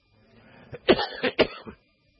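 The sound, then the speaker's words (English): A short burst of three or four harsh coughs mixed with throat clearing, loud and abrupt, with a quieter rasp before and after and silence at the end; a preacher coughing because of allergies. “I'm going to have to preach with a cough around my mouth tonight.”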